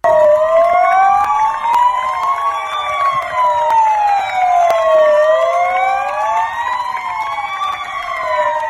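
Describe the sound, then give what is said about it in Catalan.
Sirens from about thirty patrol vehicles of the Municipal Police, Mossos d'Esquadra, National Police and Generalitat firefighters wail together at the doors of the Taulí hospital as a public tribute, their overlapping rising and falling tones sustained loudly and continuously, with no talking over them. “Un homenatge que ahir es va fer de forma pública a les portes del taulí de la mà d'una trentena de patrulles de la Policia Municipal, els Mossos d'Esquadra, la Policia Nacional i també els Bombers de la Generalitat.”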